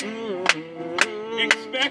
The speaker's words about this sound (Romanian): hai să o aplaudăm lui încă o dată.